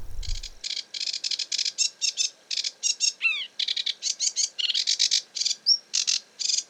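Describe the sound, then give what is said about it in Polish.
A sedge warbler sings a fast, scratchy chatter of short, buzzy bursts in steady succession, broken by a sliding downward whistle and a brief high squeak. No one speaks. “Jego bliska kuzynka to rokitniczka.”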